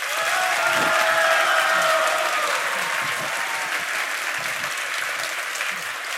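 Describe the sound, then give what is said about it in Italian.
An audience at the FameLab 2017 Padova final applauds steadily for about six seconds, dense overlapping clapping at a fairly loud, even level that eases off slightly toward the end, with no one speaking. “Ok, benissimo, bravi ragazzi, vi vedo reattivi sull'applausometro.”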